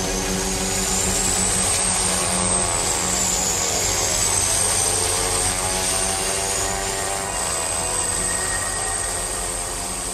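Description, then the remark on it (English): A small ski plane packed with sledges takes off over snow in the Arctic, snow churning up behind; its engine roars loudly and steadily, the droning hum layered with a high, wavering whine that rises and falls slightly throughout, with no voices. “the snow starts churning up behind and you're jam-packed in”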